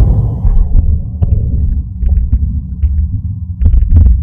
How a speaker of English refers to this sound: This is a veterinary microphone. I mean, veterinary stethoscope. Huh? Well, all right, let's pull the little rubber O-ring off and see if we can... My heart?